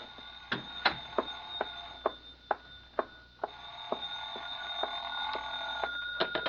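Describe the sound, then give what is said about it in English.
A telephone bell rings in a rapid series of bright, metallic strikes over a steady tonal hum, moderately loud, with no voices. “Oh, excuse me, the phone.”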